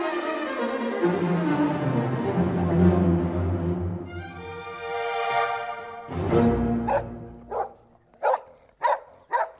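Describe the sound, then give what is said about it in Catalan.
A dog named John whines and howls in a long rising, wavering cry, then breaks into a quick series of sharp, excited barks, loud, with no one talking. “En John, que és un tabalot, no para de saltar i bordar.”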